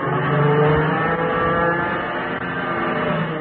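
A fighter plane engine roars loudly and steadily, its pitch wavering and straining as the aircraft loops to get behind another plane, with no voices over it.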